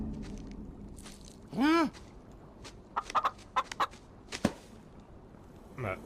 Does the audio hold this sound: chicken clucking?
yes